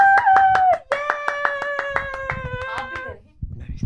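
A crowd claps in a steady, fast rhythm, about twenty sharp beats in unison, welcoming special guest Humaima Malik, while a loud sustained musical tone holds above it and then cuts off near the end.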